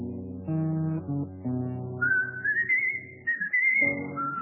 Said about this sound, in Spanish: y cruza el cielo el aullido de algún perro vagabundo, y un reo meditabundo va silbando su canción.